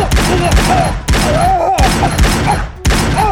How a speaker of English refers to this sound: John Rourke fired both Detonix pistols.